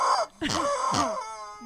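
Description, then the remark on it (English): A strange, warbling chicken call, loud, with moaning tonal swoops and two sharp rising-and-falling bursts before it trails off into a steady drawn-out note. “That chicken just sounds wrong.”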